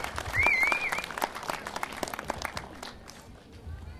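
An audience in Storuman bursts into steady, dense applause welcoming a guest, with a sharp whistle rising above the clapping early on before the applause gradually thins out.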